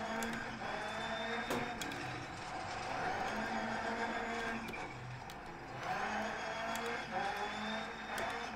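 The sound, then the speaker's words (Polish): A small car, a Maluszek, is driven hard over gravel, sliding sideways, its engine droning and revving while tires crunch and skid in bursts, continuous and loud with no voices. “Na zawodach jeszcze, wiecie, to są szutry, więc to trzeba to auto trzeba tak na kwadratowo wcześniej składać do zakrętu”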